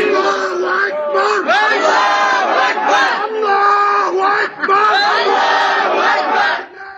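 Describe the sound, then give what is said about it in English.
A crowd, reportedly Muslim refugees on a train in Europe, chants "Allahu Akbar" (God is great) together loudly and continuously, rising and falling in rhythmic, sustained tones with brief dips between phrases, dense, overlapping shouting. “Those are reportedly Muslim refugees on a train in Europe chanting Allah Akbar or God is great.”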